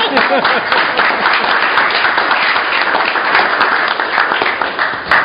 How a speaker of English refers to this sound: Congratulations. I was going to give one more applause. Let's do it.